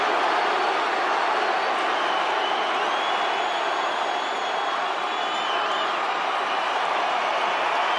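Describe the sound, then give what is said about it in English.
A large arena crowd in Fort Lauderdale cheers and roars for The Rock in a steady, loud, unbroken wall of noise for about eight seconds, with faint high whistles drifting through it and no clear voices on top. “Listen to the crowd in Fort Lauderdale.”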